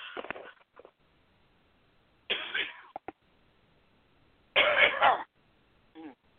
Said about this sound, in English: I'm sorry. I got a cough again. Hang on.